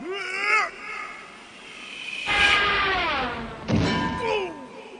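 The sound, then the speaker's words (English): A tossed anvil lands with a loud, booming thud, followed by a second hard impact, amid cartoonish sliding whistle-like tones that rise and fall. “Can you toss it over? Okay, here it comes!”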